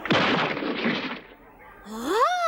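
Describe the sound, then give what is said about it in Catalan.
A loud, noisy burst of punch impact sound effects, heavy hits blurring into a rough whoosh, as henchmen are each knocked down with a punch to the back of the neck, then a short rising vocal grunt or shout near the end. “Que els tomba d'un cop de puny al clatell a cada un.”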